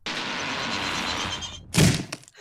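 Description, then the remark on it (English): A heavy door opens with a long, rough scraping rush of noise, then lands with a loud, deep thunk and a smaller knock just after. No voices. “Open the door!”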